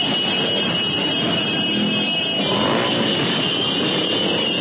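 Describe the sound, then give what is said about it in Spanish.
A steady, loud wash of motorcycle engines and street traffic as protesting motorcyclists keep arriving at Calle 13 with Carrera 36, near the Secretaría Distrital de Movilidad; continuous, with a slight swell in volume toward the end and no voices. “Siguen llegando los motociclistas aquí a la calle 13 con carrera 36 en inmediaciones de la Secretaría Distrital de Movilidad.”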